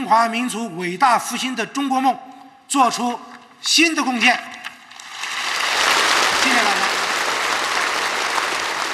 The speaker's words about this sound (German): Eine kritische Aussprache im sogenannten Parlament gibt es aber danach nicht. Eine kritische Debatte, Fehlanzeige. Zum Schluss klatschen einfach wieder alle.